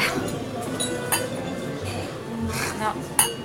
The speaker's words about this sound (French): Est-ce qu'on peut trinquer de l'eau ? On n'est jamais deux fois, hein. Le métier de russe, hein. On ne peut jamais trinquer deux fois.